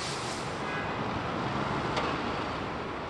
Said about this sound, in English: So what do I hear? I hear traffic noises below. I can hear an air conditioning unit on the building next door. And all of this is a cacophony.